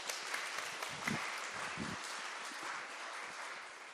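A crowd applauds steadily to welcome a guest speaker, a dense wash of many hands clapping at once with no clear rhythm, holding an even loudness throughout with no voices on top.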